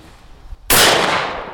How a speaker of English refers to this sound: On a clear Sunday morning, members of the Gooderham Century Gun Club gather in a field. The sound of birds is soon replaced by the sound of shotguns.